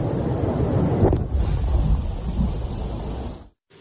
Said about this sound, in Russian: А это уже один из взрывов мины на берегу неподалеку от станции из-за хлынувшей воды. Часть оборонительной линии российской армии.